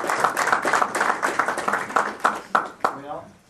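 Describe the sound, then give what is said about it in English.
A crowd applauds heaven after a prayer, with dense, overlapping clapping and a murmur of voices. The clapping thins to a few sharper, separate claps near the end and fades out. “And let's applaud heaven. Let's applaud heaven.”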